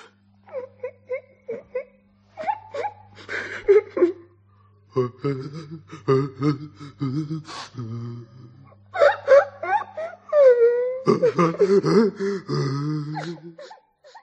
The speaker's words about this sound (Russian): Вы не ослышались. Да-да, душераздирающие рыдания.